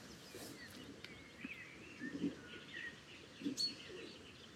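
song thrush singing

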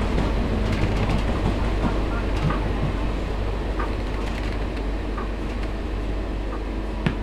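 train running on rails

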